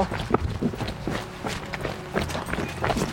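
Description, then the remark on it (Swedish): Steady jogging footsteps thud in a quick, even rhythm, roughly three strides per second, over a faint outdoor background hiss with no one talking, as people jog the route from a crime scene to a home to test how long it takes. “Men vi joggar lite då.”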